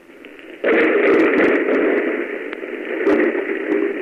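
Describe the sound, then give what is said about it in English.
A low, quiet hiss gives way to a loud, steady droning roar, like an airplane flying overhead through a storm, with faint crackles scattered through the wash of noise. No one speaks. “It sounded like a plane.”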